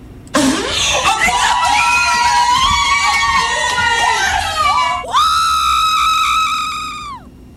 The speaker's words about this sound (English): So here is the magic moment. And for you fart fans, the fart is the first thing you hear. And then her friends going berserk.